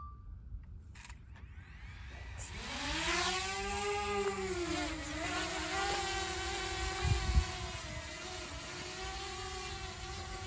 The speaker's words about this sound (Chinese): 我放飞机啊，放阵飞机啦，咁你唔过去就，三二一 ，go！